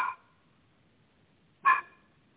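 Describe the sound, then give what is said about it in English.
A male puppy gives two short, high-pitched barks about a second and a half apart, with near silence between them and no talking. “I think that puppy wants to help.”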